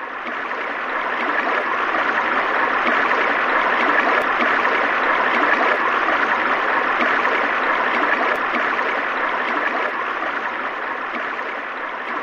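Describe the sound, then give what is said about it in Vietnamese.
A small stream flows steadily with a continuous babbling rush of water that stays even in loudness throughout, with no voices. “Chàng vừa rửa kiếm vừa vui mừng nhìn dòng suối nhỏ đang chảy về.”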